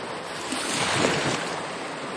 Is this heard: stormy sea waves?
yes